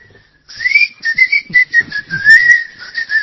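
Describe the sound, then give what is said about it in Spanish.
A person whistles a wavering tune through their teeth, breathy and hissy with a bright airy edge, fluttering in short pulses for about three seconds, fairly loud with no talking. “Sin embargo, he perfeccionado un silbido de dientes.”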